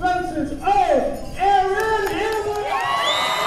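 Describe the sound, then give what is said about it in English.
A large crowd in a high school gym in Remsen, New York, cheers and shouts for hometown luger Erin Hamlin, the first American Olympic luge medalist (bronze in Sochi). High-pitched whoops and excited voices overlap in a steady, loud roar of applause and celebration. “She stood before a huge crowd in the high school gym.”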